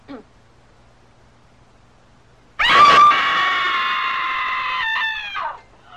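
woman screaming

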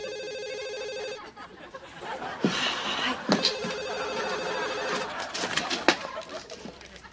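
telephone ringing

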